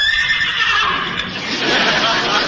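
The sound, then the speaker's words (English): A person imitates a horse's whinny, a loud, shrill, wavering neigh held for a couple of seconds, strained, with a breathy, rough edge. “What's your horse so excited about? That wasn't the horse. That was me.”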